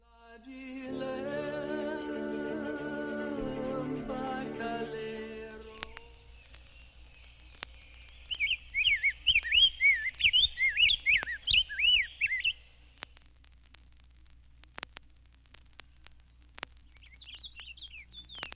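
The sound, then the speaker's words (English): A purple finch sings a rapid, continuous warble of high, bubbling notes for several seconds, clear, then returns briefly after a pause. A sustained musical tone comes before the song. “The purple finch ranges south with the evergreens, but it is more common in the north woods, its song a continuous warble.”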